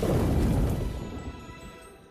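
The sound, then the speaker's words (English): A loud roll of thunder in a storm with a heavy, deep boom that rumbles for about a second, then slowly fades into a lingering low rumble. No voices are heard. “I'm not too scared by the storm.”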